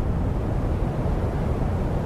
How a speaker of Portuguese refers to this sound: Mas também há quem adormeça ou quem relaxe mais com o chamado white noise, que é o ruído branco. Pode ser, por exemplo, som de eletrodomésticos, ar-condicionados, tipo isto.